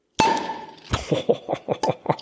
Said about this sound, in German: Wir haben noch die leckere Cola hier. Leckere Cola. Ja, sollen ja. wir die mal aufmachen hier? Ja. Ja, mal auf.